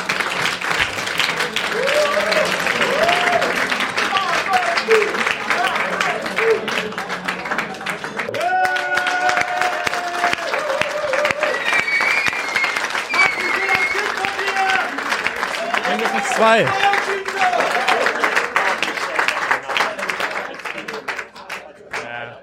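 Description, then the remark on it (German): A live audience breaks into loud, sustained applause, dense clapping filling the whole stretch with cheers and whoops rising over it before it tapers off at the end. “Aber zunächst bitte ich erstmal schon mal für einen tosenden Applaus für die beiden und wir sehen uns in einer Viertelstunde.”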